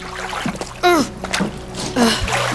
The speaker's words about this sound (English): I'm so sorry. I didn't mean to throw water on you.